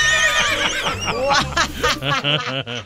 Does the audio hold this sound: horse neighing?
yes